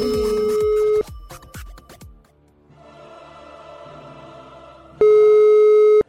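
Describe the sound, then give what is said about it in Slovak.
A steady electronic telephone tone, heard while dialing a call to a university vice-rector, sounds for about a second, then a few sharp knocks and a buzzy stretch, before the loud tone returns for another second. No one speaks. “8.08, dámy a páni, v tomto momente sa ukáže, či naše pranky sú skutočné, pretože ideme vytáčať prorektora.”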